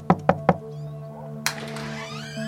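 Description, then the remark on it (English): Three quick, evenly spaced, solid knocks as Hayden knocks on the wooden front door of Ramsey Clark's house, followed by a brief creaking, scraping sound as the door swings open, over a steady low hum. “Hayden knocks, and when the door swings open, he finds Ramsey Clark welcoming them with a friendly smile.”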